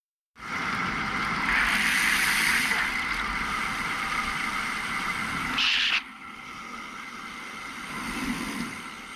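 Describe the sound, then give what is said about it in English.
A single car drives past an intersection where a cyclist waits on his bike, its engine and tire noise loud and steady for several seconds before dropping away to quieter street ambience. No one speaks. “Then you'll hear one car go by.”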